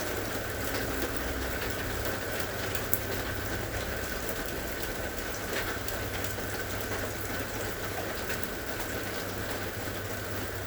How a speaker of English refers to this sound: the invitation is to slowly transition, taking with you the anchoring in of the presence that you felt, the sense of well-being felt from listening to the sound of the rain.